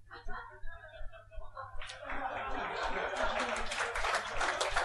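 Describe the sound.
A voice talks briefly, then a light, scattered round of applause breaks out from a small crowd and carries on steadily to the end, soft and uneven rather than a roaring ovation.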